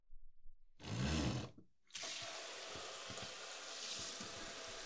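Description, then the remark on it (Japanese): A shower sprays on with a loud burst, cuts out briefly, then settles into a steady, hissing rush of running water as it is used to wash someone's hair, continuing to the end, with no talking. “では、まずシャワーをいたしますので、頭をこちらへ。”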